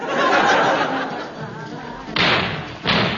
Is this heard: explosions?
yes